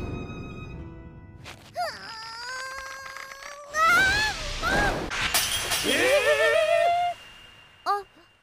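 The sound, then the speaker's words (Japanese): A corked glass bottle is smashed open because its cork could not be pulled out. It gives a loud, bright shattering crash and tinkling fragments, surrounded by high, sliding whiny vocal squeals before and after the break. “お前抜けないからって叩き割ることないだろう”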